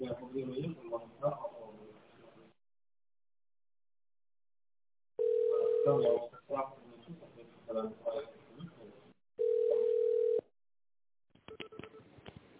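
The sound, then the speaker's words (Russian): Two steady touch-tone beeps of about a second each, dialing an extension in tone mode on a phone call to the company MedTrade, a medical equipment supplier, with telephone-quality speech before, between and after them. “Если вы знаете внутренний номер сотрудника, то наберите его в тоновом режиме или дождитесь ответа администратора.”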